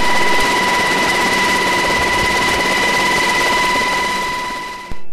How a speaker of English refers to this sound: This is what it sounds like inside a Black Hawk when you're flying.